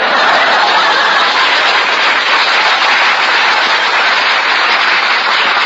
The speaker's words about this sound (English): Take the applause sign down.